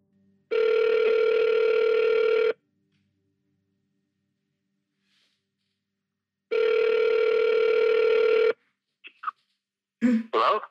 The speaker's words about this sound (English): I phone him immediately.